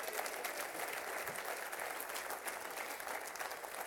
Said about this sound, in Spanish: Dele un aplauso.